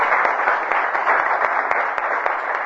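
A steady burst of applause, many hands clapping together in a dense, continuous patter with a few sharper individual claps standing out, loud throughout and without any talking.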